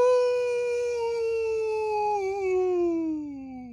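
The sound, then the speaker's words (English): A single long, loud howl holds a steady pitch, then slowly slides downward as it fades at the end, with a faint low rumble beneath it. “Before Max could answer, however, they heard a loud howl coming from behind them.”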